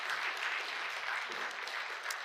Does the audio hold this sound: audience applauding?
yes